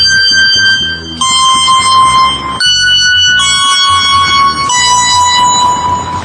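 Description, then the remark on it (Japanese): A bright synthesized chime preset tone rings out in steady sustained notes with shimmering upper partials, playing alongside a low rhythmic accompaniment, loud, with no voices. “あとはチャイム。”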